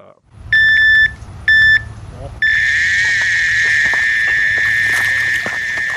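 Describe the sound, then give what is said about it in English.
A fishing bite alarm gives two short, loud electronic beeps, then breaks into a continuous shrill tone as a reel screams steadily alongside it while a carp seizes the bait at a lake in northern South Africa, sustained until the end. “An alarm sounds and a fishing reel screams as a carp seizes the bait at a lake in northern South Africa.”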